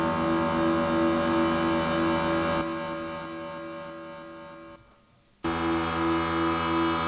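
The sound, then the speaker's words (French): A loud, sustained synthesizer drone of three layered oscillators, deep and horn-like, likened to an ocean liner, thins out partway through, fades almost to silence, then snaps back abruptly at full strength. No voices. “Je vais l'ajouter aux deux autres oscillateurs qu'on avait fait tout à l'heure.”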